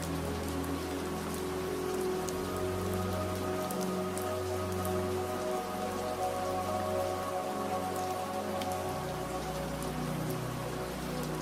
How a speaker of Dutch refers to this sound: En je ligt hier, omringd door de rustgevende geluiden van de regen en het knisperende hout in de open haard.